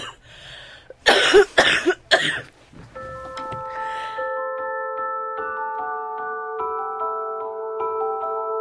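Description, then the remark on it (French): A quick cluster of three or four loud coughs, followed by soft sustained musical tones that start up and continue on their own. “Je ne peux pas trop en parler parce que je vais tousser.”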